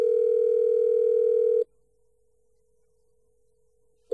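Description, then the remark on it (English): A steady, mid-pitched telephone ringback tone of an outgoing call placed by Gold Coast radio station CFM to a ticket holder sounds loudly for about a second and a half, drops to a faint hum during a long pause, then begins again. “So we gave her a call.”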